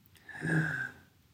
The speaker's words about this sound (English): So now you're going to breathe into the sides of the belly rather than the front. So breathing in. Swallow. Breathing out. Breathing in,